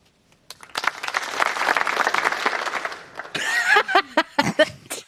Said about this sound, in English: … laughing at the spontaneous applause, which ends as soon as Todd turns around